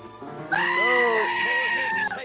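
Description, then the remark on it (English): A single loud, drawn-out bleat from a goat called Goaty Goat rings out, wavering for about a second and a half before cutting off, with only faint background noise around it. “Well, thank you, Goaty Goat.”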